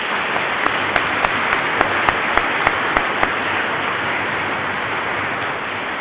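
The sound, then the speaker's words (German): An audience in a church applauds the organist steadily, a dense wash of many hands clapping at an even level, with a few sharper individual claps standing out early on before the sound settles into a uniform patter. “Und den dürfen wir mal klatschen.”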